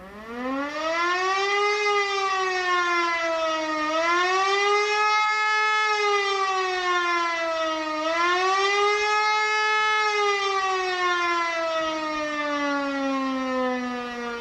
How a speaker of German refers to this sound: In schnellen Wellen, auf- und abschwellend, hallt der gefürchtete ABC-Alarm durch das Dorf.